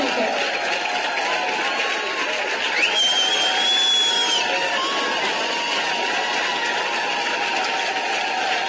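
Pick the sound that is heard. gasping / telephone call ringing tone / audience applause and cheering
audience applause and cheering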